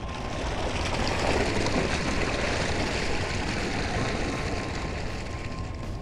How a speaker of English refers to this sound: Opening outer hatch. Chamber full. Two otters inside the chamber. Releasing water.